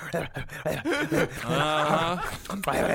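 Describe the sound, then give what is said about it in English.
A man mimics a dog, making a continuous run of whining, yelping vocal sounds with wobbling, sliding pitch for a few seconds. “I don't want to hear you making those sounds ever again, quite frankly.”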